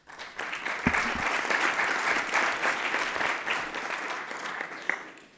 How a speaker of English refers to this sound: So thank you. Thank you very much. We can give him a hand clap.